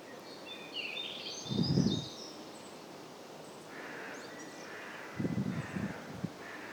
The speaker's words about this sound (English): I'm recording this in a beautiful forest, with the sun shining through the trees and the birds singing. I'm hoping that you can hear the birds.